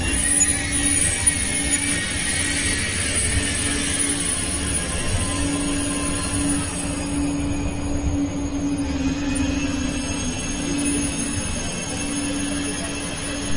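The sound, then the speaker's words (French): A TGV high-speed train rushes past right in front of the speaker at a railway station, a loud, steady roar of rail noise with a humming tone running underneath for the whole stretch, and no one speaking. “Désolé, un TGV vient juste de me passer devant.”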